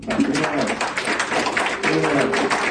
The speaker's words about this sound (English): So if you just pray that prayer, I want you just right now just to simply raise your hand so we can clap and welcome you to God's family. You want to pray that for anyone else? Great, let's clap.